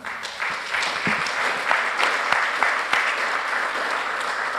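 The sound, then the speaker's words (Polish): Sustained applause from an audience at the close of a meeting, for guests including professor Rafał Jacek Delekta, a dense wash of many hands clapping at a steady, fairly loud level throughout, with no one speaking over it. “Bardzo serdecznie dziękuję i profesor Rafał Jacek Delekta, brawa.”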